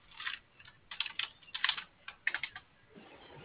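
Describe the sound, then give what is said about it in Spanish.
Rapid, irregular clicks of keys being pressed as someone enters the code 5120 on the keypad of a control box, in short bursts with brief pauses, moderately loud, with no voices. “Ingrese 5120, por favor. ¿En el teclado de atrás?”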